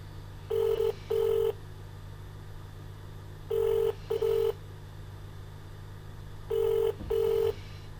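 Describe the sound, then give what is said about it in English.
A telephone rings in repeated double bursts, three cycles at a steady pace, with nobody picking up. A low, constant electrical hum sits underneath, and no voices are heard. “They ain't going to pick up the phone because they know what they're doing to me and to my brother.”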